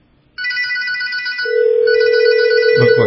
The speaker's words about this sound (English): I can see from the display my phone is still physically ringing